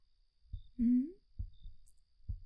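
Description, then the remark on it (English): A quickening heartbeat thumps in low, muffled double beats, lub-dub pairs coming a little under a second apart, with a brief hummed vocal sound over the first beat. “I can hear your heartbeat quickening.”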